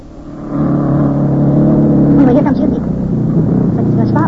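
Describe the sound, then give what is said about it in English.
A racing car engine, going over 100, roars loudly, swelling up within the first half second and holding a steady, throaty drone with shifting harmonic whine for several seconds. “Why, every car we've seen up here today is going over 100.”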